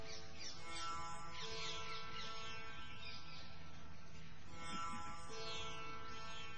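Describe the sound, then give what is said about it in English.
Several birds sing and chirp in quick rising and falling calls in Vrindavan, layered over a steady, constant background hum with no pauses. “Voices of birds. Is only one type of bird, or are there different birds' voices?”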